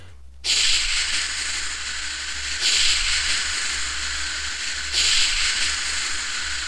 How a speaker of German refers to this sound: Da unten ist eine Feuerachse und ein Feuerlöscher. Das Feuer ist nicht stark, aber die Lampe brennt und der Kasten da. Rasch her mit dem Feuerlöscher.